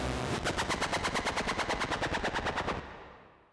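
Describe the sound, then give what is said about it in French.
A broken-down car's engine sputters loudly in a rapid, even stutter of harsh bursts for nearly three seconds, then cuts out and fades as it fails to start. “La voiture tombe en panne, le pot de jambon fume.”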